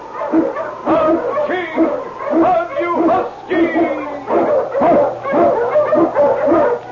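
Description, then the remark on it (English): King, an Eskimo lead sled dog, barks over and over in loud, insistent bursts with a few whining yips mixed in, keeping up a busy rhythm for the whole stretch. “The Wonder Dog King, swiftest and strongest of Eskimo lead dogs, blazes the trail through storm and snow for Sergeant Preston as he meets the Challenge of the Yukon.”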